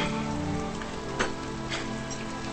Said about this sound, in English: Mr. Rose runs out into the drenching rain.